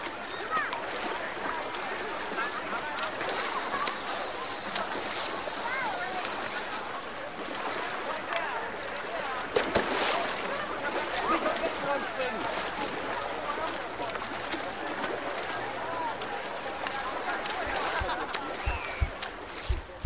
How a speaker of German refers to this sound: Das war deine Minute im Freibad.